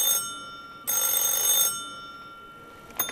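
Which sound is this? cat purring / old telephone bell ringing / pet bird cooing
old telephone bell ringing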